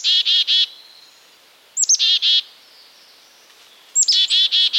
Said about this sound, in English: Have you noticed that black-capped chickadees sometimes add extra D's to the end of their calls?